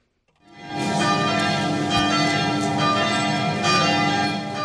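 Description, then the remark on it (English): Church bells ring out loudly and steadily in the rural French town of Trèbes on a Sunday as mourners pack a church for a service, overlapping strikes blending into a dense, sustained wash of resonant tones with no voices present. “The sound of church bells filled the rural French town of Trèbes on Sunday as hundreds of mourners packed a church for a service the victims of a terrorist attack.”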